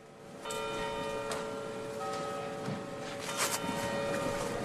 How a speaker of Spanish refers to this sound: pasando por el acto institucional de la Comunidad de Madrid en la Puerta del Sol. A las 9 de la mañana tenía lugar este acto donde han sonado las campanas de varias iglesias de fondo.